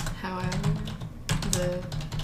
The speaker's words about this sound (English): Oh, he's typing real fast. She's really good.